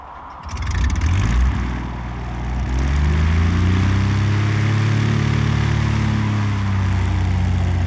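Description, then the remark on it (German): An engine coughs to life and settles into a loud, steady roar, its pitch climbing and wavering as it revs up. No voices are heard. “Lassen Sie den Motor an,”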